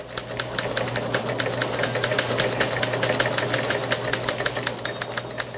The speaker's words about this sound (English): Let us turn on a microphone in the newsroom and hear the clatter of typewriters as news programs are rewritten. Again, you will hear in the background Press Association teletypes.